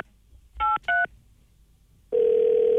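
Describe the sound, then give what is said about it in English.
Two quick, clear touch-tone telephone dialing beeps as someone places a phone call, followed after a short pause by a steady, loud tone that holds until the end. No one speaks. “So let's try and get him on the phone right now.”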